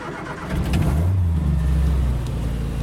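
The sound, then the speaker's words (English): The engine of a small vintage 1960s Morris car, the owner's daily driver, turns over and catches, then runs with a steady low rumble, briefly revving up before settling into an even idle, fairly loud, with no voices. “Originally, the motor in this one was either an 830cc motor, which would have been a flathead motor, or it had the early 948 motor.”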